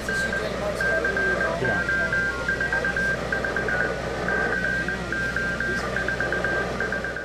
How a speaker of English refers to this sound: Kern was in a tent next to the van setting up his radio equipment. Kern told me that he planned to primarily broadcast in Morse code in honor of the old days.